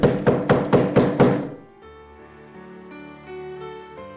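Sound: knocking on a door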